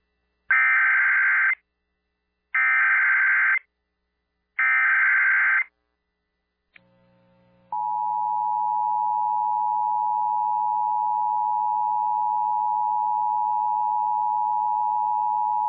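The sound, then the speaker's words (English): A siren test of the emergency alert and notification system for Duke Power Company's Oconee Nuclear Station: three short, loud bursts of harsh digital warbling, evenly spaced, then a click and a steady piercing electronic tone that holds on continuously. No one speaks. “is a test of the emergency alert and notification system for Duke Power Company's Oconee Nuclear Station.”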